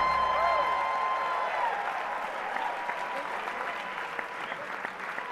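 An audience claps steadily and densely over music with sustained, organ-like tones, the applause staying loud and continuous throughout.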